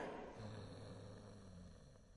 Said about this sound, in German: Da schnarcht ja jemand mitten auf dem Fest. Ruhe, Donnerwetter!